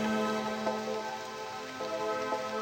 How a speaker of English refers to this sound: I stand in the garden. It is raining.